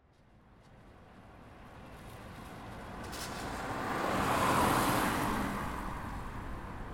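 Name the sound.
car arriving outside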